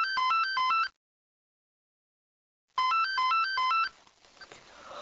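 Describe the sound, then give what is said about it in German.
A telephone rings with a bright electronic warble, two bursts of rapid repeating tones separated by nearly two seconds of silence, then a faint rustle as the ringing stops. “Das Klingeln des Telefons weckte mich.”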